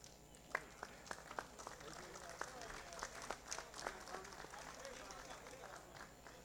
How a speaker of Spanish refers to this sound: Teniendo en cuenta la unidad y el trabajo que hacen en conjunto, merecido este aplauso de parte de los diputados para ustedes, mis queridos licenciados.